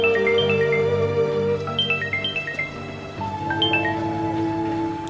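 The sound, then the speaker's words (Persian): A mobile phone ringtone plays a short, bright electronic melody of stepping notes, repeating its phrase over a steady sustained backing, fairly loud, with no talking, as the phone is taken from a pocket and its number checked. “آسایش موبایلش رو از جیبش در میاره و به شماره نگاه میکنه.”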